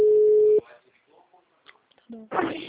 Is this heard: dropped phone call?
yes